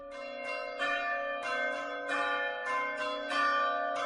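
Church bells ring out a melodic sequence of overlapping strikes, each tone resonating and blending into the next at a steady, moderate volume, with no voices present. The melody was composed by Rosalina Caballín Yarnoz for the Campanas por el Clima initiative of the Fundación Clima.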